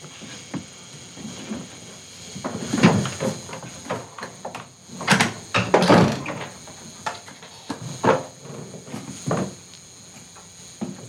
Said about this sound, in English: You go ahead and close the door behind you. Go on.